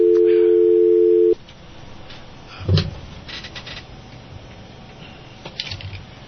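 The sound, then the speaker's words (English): A steady, loud telephone dial tone hums for about a second before cutting off, followed by a clunky handset thump and a few faint clicks and beeps of dialing as a call is placed to reach a guest. “I'm having phone problems, folks, but I will try one more time.”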